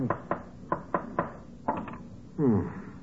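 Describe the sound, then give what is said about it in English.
A hammer taps a nail about seven times in an uneven rhythm, tacking a finished painted canvas onto a wooden frame, sharp knocking strikes, followed by a brief higher, whiny tonal sound at the end. “But what were you doing with the hammer and nail?”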